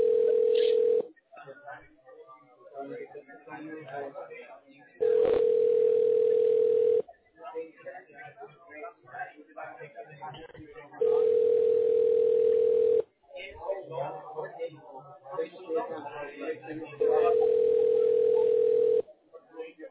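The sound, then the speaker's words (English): A steady electronic telephone line tone pulses in long, even bursts, about four times in a slow repeating cycle, with muffled voices and line noise filling the gaps between them, as a call is transferred to voicemail at Hattaway Corporation. “Can I connect you in her voicemail?”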